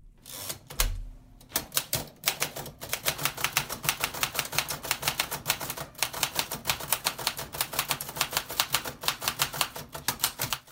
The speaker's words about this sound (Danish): Ja, sådan lyder det på en 1940 skrivemaskine. Det lyder lidt tungt her, og det er altså to breve fra Lord Mountbatten.